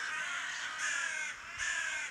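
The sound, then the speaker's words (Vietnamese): Crows caw loudly, a few harsh, raspy calls following one another in quick succession with no voices, as the birds come to raid a field of corn and beans. “Nội hai chuyện đó không, đã thấy rằng việc đuổi chim quạ của chú Hiếu đã không phải là đơn giản rồi.”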